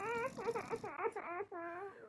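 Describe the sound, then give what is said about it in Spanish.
A high, wavering voice sobs and wails in short, quivering bursts, like a little girl crying; it sounds like a person imitating the crying, fairly loud. “Acercándose a la cama, escuchó el sonido de una pequeña niña llorando.”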